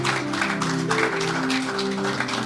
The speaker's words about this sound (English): Please let us keep clapping. Let us appreciate her well. Thank you, mommy.